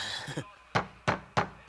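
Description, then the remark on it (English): Four firm, evenly spaced loud knocks on a door, following a brief trailing voice at the start. “Get the door, you turds, and remember, play dumb.”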